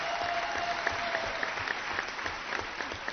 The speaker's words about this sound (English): Would you all one last time please stand for a nice round of applause, everybody, retirees?